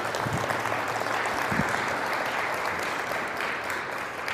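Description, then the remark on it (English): An audience at an 8 a.m. talk applauds steadily, many hands clapping in a dense, continuous wash of noise that holds at an even loudness throughout before easing slightly at the end. “I really don't know why you're applauding, because I'm going to depress you is what I'm here to do.”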